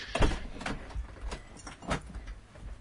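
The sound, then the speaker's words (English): A front door right next to a studio being opened and shut, with a jangle of keys and a few sharp clicks and thumps spaced over a couple of seconds, not loud, no voices. “That's what you get for having your studio right next to the front door.”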